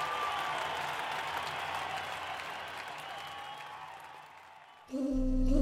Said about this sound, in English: Even with all these noises, nothing on stage was ever missed, especially when an actor hit a high-sustained note. The audience would applaud and yelled out loud, "Hao," meaning bravo.